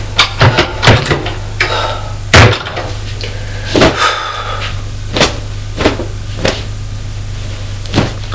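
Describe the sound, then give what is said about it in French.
A father opens the wooden doors of his wardrobe, a series of sharp knocks, clacks and creaky bumps spread irregularly over several seconds, over a steady low hum and no talking. “Il ouvrait les portes de son placard.”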